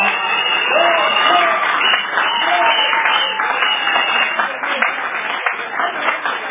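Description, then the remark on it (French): A crowd applauds loudly and steadily for several seconds, a dense wash of clapping with a few voices calling out above it. “En tout cas, je ferme la parenthèse là, parce que vous n'avez pas bien applaudi.”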